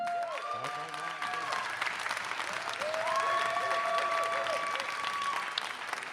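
An audience applauds steadily for about six seconds, a dense, continuous clatter of many hands clapping, with a few whistles and whoops rising above it.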